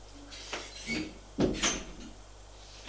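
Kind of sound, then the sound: household object, door being opened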